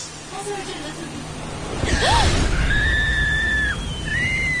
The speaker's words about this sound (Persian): بس دیگه، تمومش کن. جیغ نزن، تمومش کن